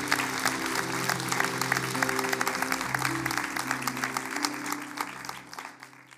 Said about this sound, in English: And amen. Let's clap our hands for God's word today at all of our locations.